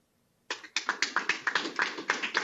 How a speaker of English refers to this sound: Let me hear the applause. Let me hear the applaud of the kids who support President Trump.